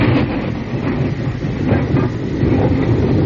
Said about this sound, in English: Oh, yeah, that's a record of a train in West Virginia. It is. It's an authentic record of a train in West Virginia.